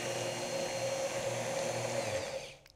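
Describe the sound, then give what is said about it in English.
An immersion blender whirs steadily with a loud, buzzing motor hum and a high whine, blending a milk mixture with vinegar, salt and sugar to emulsify it with oil for mayonnaise, running without pause for over two seconds before cutting off abruptly. No one speaks. “So first I'm to get this immersion blender in, blend this.”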